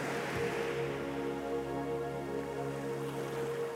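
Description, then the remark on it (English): A steady wash of ocean waves breaking on a shore rolls on with no clear break between waves, layered over soft sustained tones that hum gently underneath. No one speaks. “The waves move with rhythm.”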